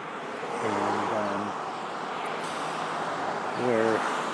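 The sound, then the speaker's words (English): Steady outdoor roadside noise from passing traffic at a bus stop near Ray Street and Bunting Road fills the background, a broad wash of sound with no breaks, while brief bursts of a voice come through near the start and end. “So I'm just standing here at the bus stop near Ray Street and Bunting Road.”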